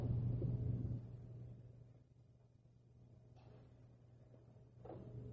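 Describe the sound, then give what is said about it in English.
A chair is pushed across the floor, scraping in a low, grinding rumble for about a second, then quieter shuffling and a couple of soft knocks follow, with no one speaking. “Oh, I'm tired from pushing these chairs around.”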